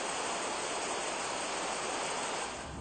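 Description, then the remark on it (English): A steady, dense roar of rushing water from the Iguazu Falls, continuous and loud throughout with no voices, easing slightly at the very end. “Since September the 11th, the Iguazu Falls have lost half the number of foreign tourists.”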